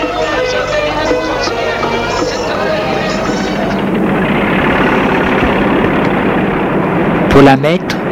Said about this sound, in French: Arrivé à Abidjan, un camion la prend.